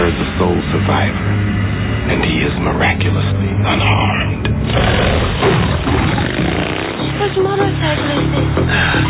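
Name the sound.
car engine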